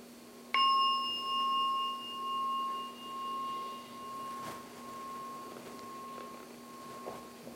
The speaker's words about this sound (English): So I'm going to ring the bell 3 times and then we can end the meditation for tonight.